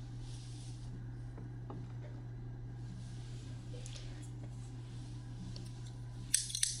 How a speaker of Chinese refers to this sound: 剪刀放在火炉上烤一下，先生，我们要开始了。